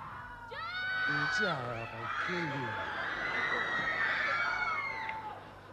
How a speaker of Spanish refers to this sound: para tomar noción de lo que era el griterío ese infernal mientras ellos intentaban tocar?